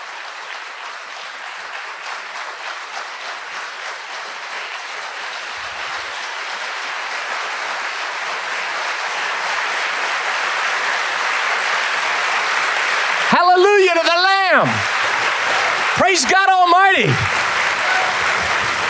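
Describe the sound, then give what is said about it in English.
A crowd makes a rain sound with their hands, starting from the back row, a dense, steady patter that gradually swells louder, with two brief wavering vocal cries rising over it near the end. “And I want you to just listen and let God show you what it sounds like when the rain of the Holy Spirit starts to come across the fire-burned plains.”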